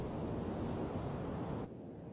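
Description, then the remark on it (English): Steady rush of sea waves with a broad, noisy wash that fills the air, fairly loud, easing slightly toward the end, under a blue-gray sky dotted with gray clouds, with wind blowing. No voices. “Puffs of gray clouds dot a blue-gray sky and the sea ripples below.”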